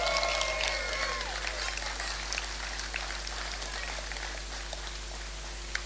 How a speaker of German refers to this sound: Ein Applaus für Jesus und Bartimäus.